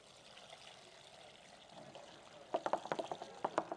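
Water pours steadily with a soft rushing trickle until it overflows, breaking into a quick run of splashy drips and spills near the end, fairly quiet, with no one speaking.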